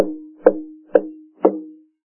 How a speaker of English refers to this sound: In his visitation one day he went to a door and knocked.